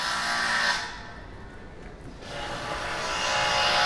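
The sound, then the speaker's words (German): Loud, harsh grinding and sawing noise from power tools, easing briefly in the middle before roaring back, from renovation work on the lower floor of a shopping center that is currently a construction site, with no one talking. “Oben haben die Geschäfte noch geöffnet, aber das Untergeschoss ist derzeit eine Baustelle.”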